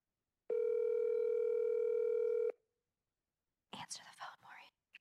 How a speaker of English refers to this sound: Oh, we're giving her a call. We're doing a call in.